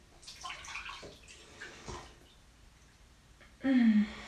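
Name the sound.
bathtub filling with water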